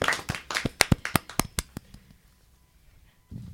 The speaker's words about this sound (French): On peut applaudir, je crois, cette belle parole.